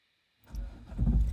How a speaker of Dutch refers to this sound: Pa start de auto, pinkt rechts en rijdt de oprit op langs bomen en struiken.